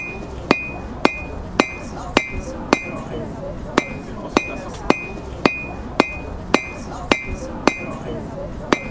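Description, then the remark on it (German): A blacksmith at a medieval Christmas market, forging small items such as necklaces with children at an open fire, strikes metal in a steady rhythm, about fifteen sharp ringing blows with a bright metallic ping, over a low murmur of background noise and voices. “Hier auf dem Markt bin ich der Schmied für die Kinder hauptsächlich, sodass die Kinder können bei mir was schmieden.”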